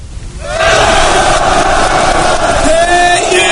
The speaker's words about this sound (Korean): 포탄 소리를 채 씻어버리기도 전에 섬뜩한 환호 소리가 그의 귓속으로 밀려들었다.